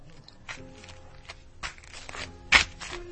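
Brisk footsteps tap along at an uneven quick pace, a handful of distinct scuffing steps, one louder and closer near the end, over a quiet background hum.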